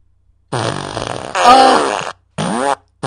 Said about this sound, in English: She's gonna give you the fart machine. I asked her if she wants the fart machine.